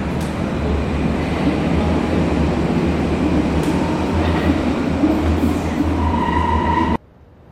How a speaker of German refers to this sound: Als ich meine Tasche schloss und die abgegriffene Messingschließe zuschnappen ließ, spürte ich den Luftsog der näherkommenden U-Bahn.